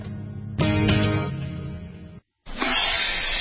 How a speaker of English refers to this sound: Ah, the copperhead snake. It hisses before attacking. But that's not a copperhead. That's the Sullivan's RV freshwater tank overflowing into their black one, which is backing into their vent pipe, making for a very different kind of attack.